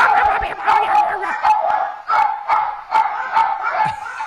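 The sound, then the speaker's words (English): Several small dogs bark excitedly as a bear is leaving, a steady flurry of rapid, overlapping, sharp yaps with no talking. “He's leaving, and here come the chicken dogs.”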